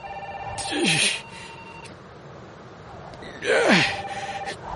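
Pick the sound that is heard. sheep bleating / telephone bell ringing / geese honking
telephone bell ringing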